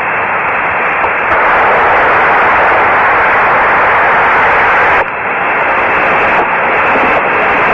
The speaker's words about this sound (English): As long as we get static on there, they're up there. And we'll be hearing from them in a minute. That static is the role of the antenna. And there's nothing to be concerned about.